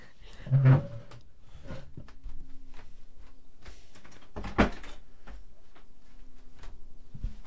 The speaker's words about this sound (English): My door keeps, like, opening and shutting, so I'm going to